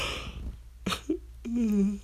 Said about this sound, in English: I'm sorry, you yawned. I can't help it. Yawns are contagious, you know. Stop infecting me with your yawns.